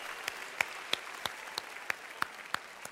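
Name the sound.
audience applause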